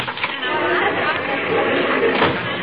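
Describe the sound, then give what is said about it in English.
Dense, steady babble of a large crowd at a rally, heard from behind the stage door, many overlapping voices merging into a continuous murmur with no single words standing out, holding at a fairly loud, even level throughout. “Sounds like a tremendous crowd out there, dearie.”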